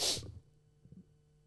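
A single sharp sneeze bursts out at the start, airy and explosive, then fades to quiet with a faint breathy rustle shortly after.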